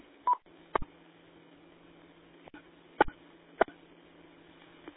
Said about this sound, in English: Good evening, and stand by for tones.